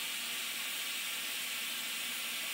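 A steady, loud roar of steam blowing off from a boiler safety valve lifting at about 110 pounds per square inch, a continuous high-pitched hiss that holds without pause for the whole stretch, with no one speaking.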